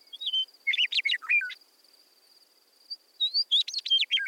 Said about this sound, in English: Meadowlark is a talkative bird. You can often see them singing from the top of fence posts or trees.